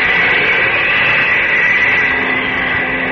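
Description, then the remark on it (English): An airplane passes overhead, coming toward the listener, as a steady, loud engine roar with a hissy upper edge, holding an even level throughout with no voices. “Yes, that does sound like a plane. Above me and coming this way.”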